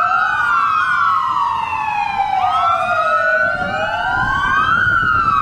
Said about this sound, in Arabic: وبدأ إقليم كردستان منذ سنوات بإحياء هذه الذكرى بتوقف الحركة في عموم الإقليم في 11 ظهرا ولمدة 5 دقائق على وقع صفارات الإنذار التي كانت تنطلق أيام الحرب العراقية الإيرانية كإشارة إلى وجود قصف جوي على المنطقة.